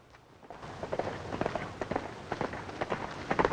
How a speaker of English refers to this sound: Then it's outside Dracula's castle as Van Helsing gets out. He looks up at the sound of horses.